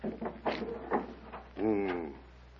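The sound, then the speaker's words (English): A few short thuds and scrapes, then the door to Timur's quarters swings open with a long, wavering hinge creak, moderately loud. “Here, the door to Timur's quarters.”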